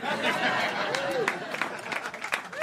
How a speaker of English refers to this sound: Thank you. You're right to clap. You should, after that long, incoherent, rambling session, do the same thing you do after someone plays a magnificent cello solo.